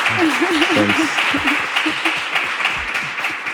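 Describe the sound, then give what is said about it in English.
Sustained audience applause for a guest at a live event at the IAA fills the whole stretch, a dense, steady crackle of many hands clapping at once, with a voice calling out over it near the start. “Can we give a round of applause to our guest?”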